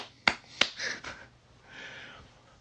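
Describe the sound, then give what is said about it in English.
Clapping in tribute to filmmaker Jordan Peele: two sharp, loud hand claps ring out, followed by a couple of softer, quicker claps and then a faint breathy hiss. No one speaks. “Can we get a clap for Mr. Peele?”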